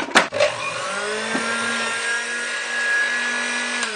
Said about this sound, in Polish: Podłączamy teraz sobie blender.